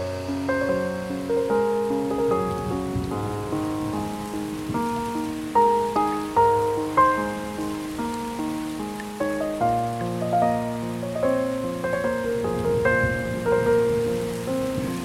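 Steady rain patters on a surface, a soft continuous hiss running beneath gentle piano-like melodic music, with no voices present.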